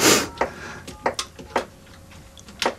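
A long-distance phone number to Bangkok being dialed: a string of six or seven short, crisp key clicks at an uneven pace, fairly quiet, with no talking.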